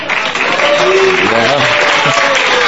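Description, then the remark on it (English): Loud, steady audience applause, a dense crackling wash of many hands clapping that holds throughout, with faint murmuring voices underneath. “The product is not as good as you are applauding to the product.”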